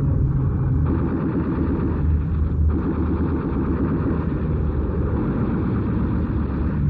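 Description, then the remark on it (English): A loud, steady drone of approaching Messerschmitt fighter planes' propeller engines, roaring continuously with a rough, throbbing low rumble and no voices. “Look out! Messerschmitts! Hand in the sun, boys! Here they come.”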